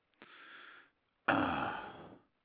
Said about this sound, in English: God damn, I can't even clear my throat.